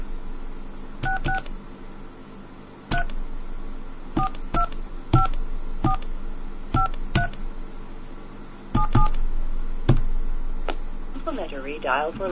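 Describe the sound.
A series of about a dozen short, crisp telephone keypad dial tones beeps at an uneven pace while a calling card call is dialed, some in quick pairs, over a steady low hum and a faint murmur of voices.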